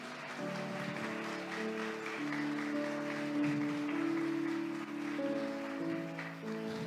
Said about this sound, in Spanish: Denle un aplauso a ese Dios que tiene algo especial para ti.